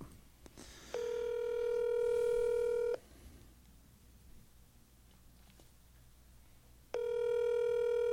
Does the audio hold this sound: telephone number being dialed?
yes